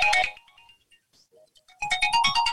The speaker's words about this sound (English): Apologies, my phone just rang.